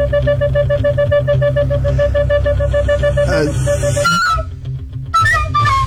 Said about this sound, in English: Nick's Recorder Quartet. Ah. And I got them to play 5 songs